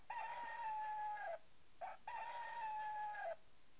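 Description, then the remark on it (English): A chicken call sounds twice in long, drawn-out, tonal bursts, with a brief chirp between them. It is clear, with no talking over it. “What about a chicken?”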